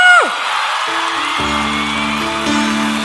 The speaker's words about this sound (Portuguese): apaixonado aí, dá um gritinho!